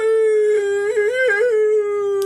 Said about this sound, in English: My dog is howling.